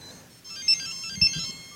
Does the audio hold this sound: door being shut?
no